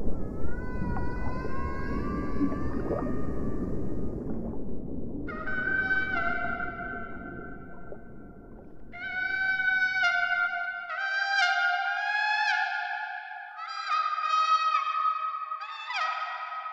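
whale song

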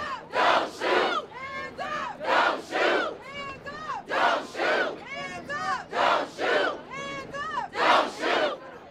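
protest crowd shouting chants

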